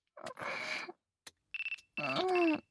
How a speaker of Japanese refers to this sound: もうやば、看護部長だ。電話出るね。